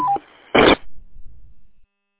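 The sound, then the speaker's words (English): A radio Roger beep: a brief electronic tone that steps down in pitch, followed by a sharp burst of static and then a faint, fading hiss. “I hear a Roger beep.”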